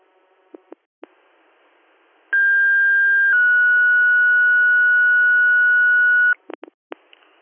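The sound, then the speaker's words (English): Brief clicks and squelch bursts, then a loud steady fire dispatch paging tone, sent for Wayland Fire, that steps down to a slightly lower pitch and holds for several seconds before cutting off, followed by more radio clicks. “Would you like another set of tones?”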